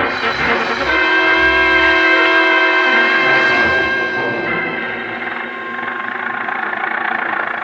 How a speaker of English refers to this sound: I was slammed into an old Model T Ford, and off we went roaring through the back streets of Cairo.